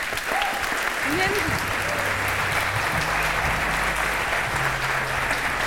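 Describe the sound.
Sustained applause from an audience, a dense steady clapping that fills the whole stretch at an even level, with a few faint voices and cheers mixed in underneath.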